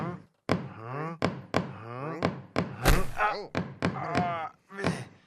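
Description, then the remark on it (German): A series of sharp, solid knocks on a door, irregularly spaced, with wordless voice sounds between the raps. “Da klopft einer.”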